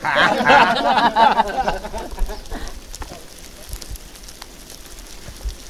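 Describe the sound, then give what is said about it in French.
Silkworms in their last week of feeding make a dense, soft crackling patter much like light rain on leaves, continuous. A voice is heard briefly at the start before the munching carries on alone. “Ah oui, d'accord, c'est pour ça que ça fait penser à la pluie. Effectivement, quand vous rentrez dans une pièce où les verres à soie dans la dernière semaine mangent deux à toutes les deux ou trois heures”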